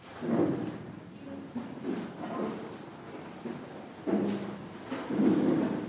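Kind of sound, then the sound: household object, door being closed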